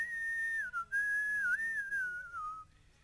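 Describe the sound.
Someone whistles in imitation of a small flute heard at a concert: a single clear, high melodic line that glides smoothly between notes, with a couple of brief dips, before trailing off near the end.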